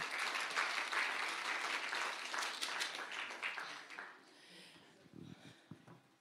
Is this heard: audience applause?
yes